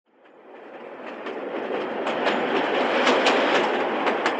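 A train rumbles along the railway track, growing louder as it approaches, with a steady run of sharp wheel clacks over the rail joints and no voices.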